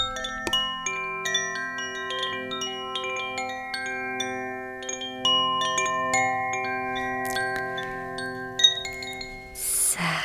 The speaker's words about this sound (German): Genau, das ist unsere Essensglocke.